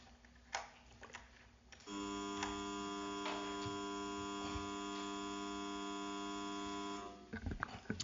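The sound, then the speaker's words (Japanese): A loud, steady electric buzzer drones continuously for about five seconds to open an extraordinary session of a Japanese town council, its harmonic hum cutting off abruptly, with faint room noise before and after. “それでは定刻になりますので、ブザーをして開会をしたいと思います。”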